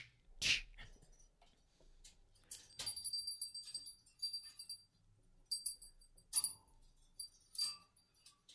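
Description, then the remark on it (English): Light metallic jingling from a pet bird comes in several irregular bursts, bright and tinkling like a small bell being shaken, fairly quiet with pauses between, and no talking. “The jingling is the bird.”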